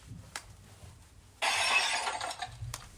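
A drinking glass of water gets knocked over with a sudden bright crash and a second of jangling, shattering noise, framed by a couple of small clinks and no voices.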